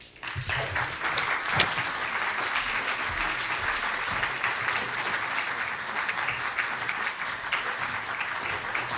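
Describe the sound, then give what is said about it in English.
Sustained applause from a large audience welcoming a guest speaker, a dense, steady wash of many hands clapping at an even level throughout, with no pauses or voices breaking through. “Thank you for that applause, which I deserve.”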